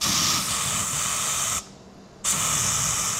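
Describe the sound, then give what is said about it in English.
An aerosol can of bug spray hisses loudly in a sustained burst on the streets of Recife, Brazil, cuts off briefly for about half a second, then sprays again steadily. “But not without a little more bug spray first.”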